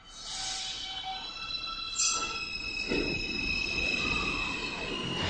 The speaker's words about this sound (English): I have to agree that these vehicles do make this sound. And the answer is... a certain make of subway car, many along the E line, the 4, and the 5. Listen.